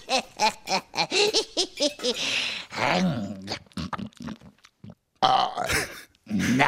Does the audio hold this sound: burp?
yes